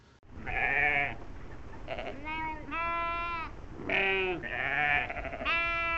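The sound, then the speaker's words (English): Several sheep bleat loudly, one after another in overlapping wavering calls, with short pauses between them and no talking. “That night in the fields just outside of town, shepherds were keeping their watch over their flocks of sheep.”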